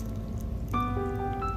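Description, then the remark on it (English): Coconut water pours steadily over blueberries, strawberries and pomegranate in a bowl, a soft splashing trickle that takes on a ringing, hollow tone partway through. No one speaks. “I had blueberries, strawberries, pomegranate, coconut water.”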